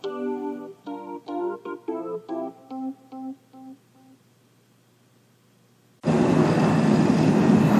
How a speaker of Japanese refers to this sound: 今日のユーマグ iPhone ポッドキャストはまたまた列車内から新幹線光号スタジオからお送りしております。ただいま東海道新幹線東京方面に向かって帰る途中でございました。